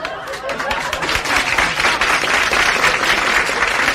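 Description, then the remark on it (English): Steady, dense applause from a crowd of kids at the Hullabaloo show with Murray the King, many hands clapping in a continuous rough patter with a murmur of voices mixed in, holding at an even, fairly loud level throughout. “Hold your applause, kids, hold your applause.”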